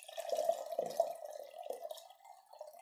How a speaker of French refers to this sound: Puis elle lui verse une tasse de thé.